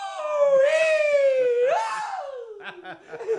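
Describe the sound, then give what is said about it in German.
A loud, high-pitched joyful shout, a drawn-out cry combining "juhu" and "juchi" that rises and falls, followed by brief softer voiced sounds near the end. “Du, das war jetzt gleich Juhu und Juchi in einem.”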